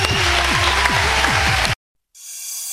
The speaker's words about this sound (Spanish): Un fuerte aplauso para María José Yergo, por favor.